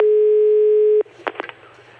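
A steady, buzzing telephone line tone of an incoming call holds for about a second, then cuts off into a few sharp clicks and short bursts of line noise, fairly loud.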